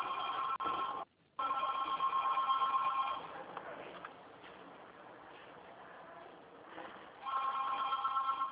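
A telephone rings in loud, bright, trilling bursts: two rings with a short break, then a quieter stretch of murky background noise before the ringing starts again.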